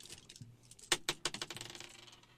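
Dice are rolled and counted up during a tabletop role-playing game: a few sharp clicks, then a quick run of rattling knocks that gradually settle and fade, with no voices.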